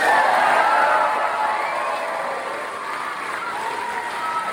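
A crowd cheers and shouts continuously for several seconds, a loud, dense roar of many voices with some higher whoops, easing slightly midway before swelling again.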